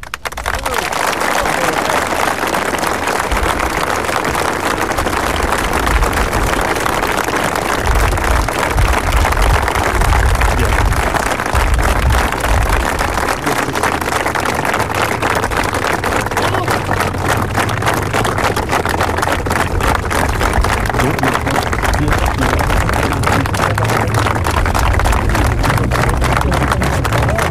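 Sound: long applause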